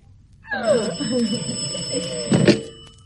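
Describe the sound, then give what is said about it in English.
A telephone bell rings continuously with a bright, metallic tone, partly under a voice, and a heavy thump lands near the end. “Stop ringing. Do you hear?”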